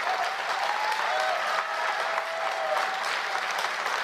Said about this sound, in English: I don't know that everybody's cheering at this moment. I think a lot of people feel like they're supposed to cheer, and a lot of them are like, bro, stop. Sit down. Stop. You're making it worse.